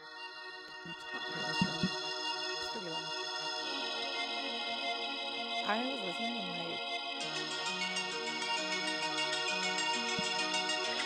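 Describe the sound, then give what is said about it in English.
A rap track plays steadily throughout, with a dense electronic beat, heavily processed, effect-laden melodic layers and sliding tones, loud and continuous with no talking over it. “have y'all ever heard this song?”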